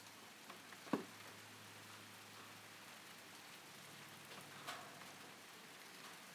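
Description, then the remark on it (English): Steady, very warm rain, not torrential, patters across hard surfaces on a sultry evening in a continuous hiss, with a couple of sharper drips or taps standing out near the start and middle; no voices. “It started to rain.”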